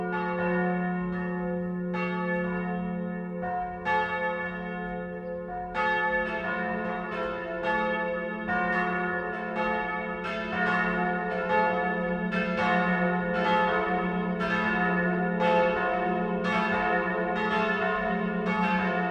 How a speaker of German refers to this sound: Es ist 12 Uhr. Das Mittagsläuten kommt heute von der Pfarr- und Klosterkirche Mariä Himmelfahrt im niederbayerischen Windberg.